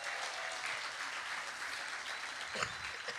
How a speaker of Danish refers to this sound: Ja, det der ellers blev klappet af, det var jo bare lige, at jeg gik i gang med at strippe, fordi jeg lige ville gøre opmærksom på, ja, at det jeg kan de andre ikke se derhjemme.